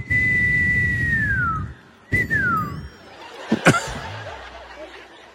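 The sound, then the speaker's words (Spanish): A person whistles two descending tones, the first long and sliding down, the second shorter, then breaks into soft laughter and breathy chuckles. “No sé, tú estás haciendo cualquier silbido.”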